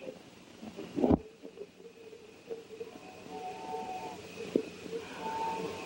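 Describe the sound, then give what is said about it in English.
A train rumbles along the tracks on a moonlit night, a low steady rolling with faint whistle-like tones drifting in and out, plus a brief sharp knock near the start. “I think if you hold your breath, you can hear the train all the way to Kentucky.”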